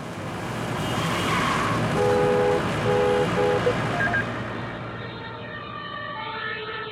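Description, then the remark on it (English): An emergency siren wails with repeating tones over the steady rumble of road traffic, the sound shifting as the noise thins toward the end. “We built up artificial intelligence that is able to detect such sirens in any acoustic signal.”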